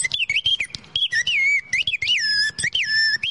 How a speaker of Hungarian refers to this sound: Ez egy dugattyús madársíp. Na, hallgassuk.